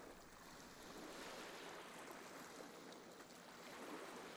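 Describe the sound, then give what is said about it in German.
A steady, full-bodied rush of sea waves washing onto the shore, the waves swinging calmly back and forth, with gentle swells in loudness and no voices. “Sie sitzen angenehm müde und schwer im Sand und hören das Rauschen des Meeres.”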